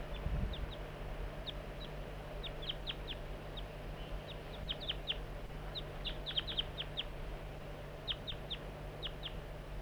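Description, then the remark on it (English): A juvenile bird in a slanting pine gives frequent short, high chirping calls, answered by another bird's similar calls, the two trading back and forth in irregular bursts over a steady low background hum. “Juvenile still there in the slanting pine, giving frequent calls, carrying out a conversation with bird 4-3.”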